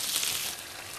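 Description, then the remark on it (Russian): Boiling water is poured into a hot pan of chicken pieces with tomato paste, a loud, steady hiss of sizzling that eases slightly partway through the brief moment, with no voices. “И добавляем кипятка, пожалуйста.”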